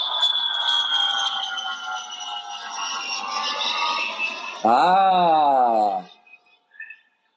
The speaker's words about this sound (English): All right, let's take a little flight to Vegas, shall we? I don't know if you guys can hear that. Can you hear that? There's a plane sound effect. Let's do it again.